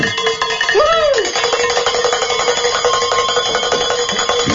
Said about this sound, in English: I always think of Joe when I ring the bells, because Joe McClain, I mean, and rightfully so, he says, you know, ring it like you mean it.